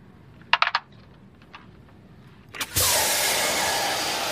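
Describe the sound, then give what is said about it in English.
A few quick metallic clicks, then a sudden loud blast of harmless steam, meant to panic intruders, bursts on hissing and keeps roaring steadily, bright and airy, until the end. “It's just harmless steam to panic intruders.”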